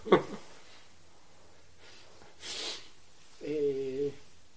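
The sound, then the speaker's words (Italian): A soft, audible breath, a single airy rush of air, followed by a brief voiced murmur. “Sto respirando.”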